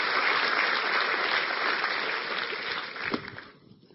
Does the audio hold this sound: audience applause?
yes